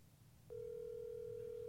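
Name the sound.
phone call ringing tone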